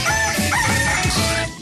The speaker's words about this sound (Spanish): Y para los intensos que piden el gallo el domingo. No lo vamos a hacer, no, porque no nos da la gana. El gallo de Radioactiva, fin de semana.